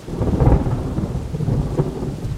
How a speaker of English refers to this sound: A shelter I built out of leaves and a fallen tree has blown away. I need new shelter, and quick. The storm is mayhem.